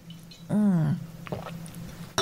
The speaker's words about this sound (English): You can listen to me drink mine.